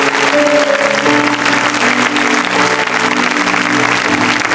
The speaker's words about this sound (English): Now we can give, just, we've been praying for you folks, so now can we just give the Lord a clap offering?